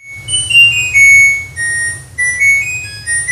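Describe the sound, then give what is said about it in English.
A voice imitates a Samsung washer's end-of-cycle melody, a classical piece by Franz Schubert, whistling a short tune of high sustained notes that rise and fall over a low, steady rumble. “Do you ever notice that the appliances now are making noises? Like when they're done, washer and dryer. Mine sounds like...”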